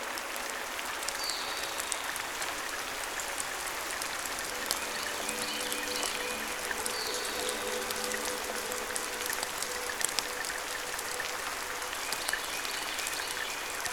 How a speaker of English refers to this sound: I just love when it rains like this.